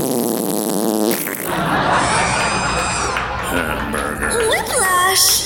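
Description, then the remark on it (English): A voice imitates farting with loud, raspy sputters and wet buzzing bursts, as an impression of basketball player Vladdy if he were a fart, continuing over noisy crowd chatter and cheering throughout. “Here's a little impression of basketball player Vladdy if he were a fart.”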